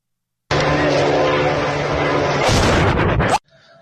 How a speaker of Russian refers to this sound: 4 часа утра, Цимлянск, что-то взорвалось сильно. Где взрыв?